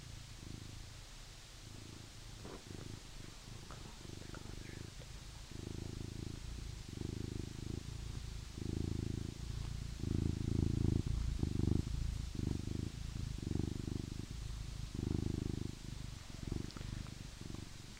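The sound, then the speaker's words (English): A domestic cat purrs right up against the microphone, a close, loud, rumbling purr pulsing steadily in rhythmic breaths with no talking for about eighteen seconds. “You get kitty purrs on days when we don't feed the cat, everybody.”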